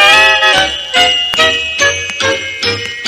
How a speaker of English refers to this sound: Tingling, tingling, with the bells a-jingling, Willie soon was out of sight.